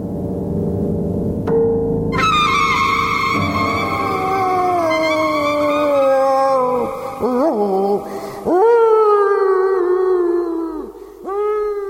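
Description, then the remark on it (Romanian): A dying dog howls in long, drawn-out wails that rise and fall in pitch, loud, with a brief break before the howling resumes. A low engine-like rumble sits underneath at the start. “Poftim câinele moare și noi ne certăm.”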